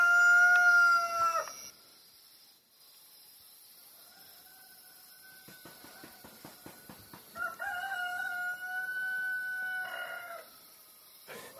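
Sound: rooster crowing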